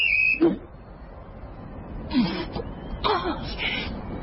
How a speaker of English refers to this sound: And I've got my whistle. Blow it and I'll shoot you. Go ahead. That'll be more noise.